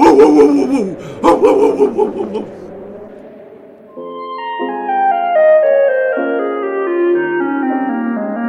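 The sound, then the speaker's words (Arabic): A dog barks and yelps excitedly a few times for a couple of seconds as it goes to a bird and catches it, then the barking stops and a bright, descending musical melody plays on its own. “أجل أحبتي، ذهب الكلب إلى الطير وأمسك به.”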